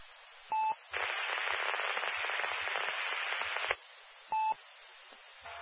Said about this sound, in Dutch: Ja, ik hoor alleen een ruisbult, maar niet.